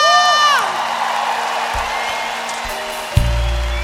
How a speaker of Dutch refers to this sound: lieve mensen, wat een ongelofelijke avond was dit. Een applaus voor jullie zelf!